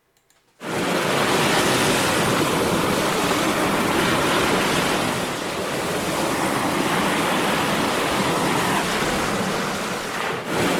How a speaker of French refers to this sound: Allez, c'est sur ces petits bruits de vagues qu'on se quitte.